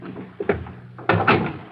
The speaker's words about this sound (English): Close the door.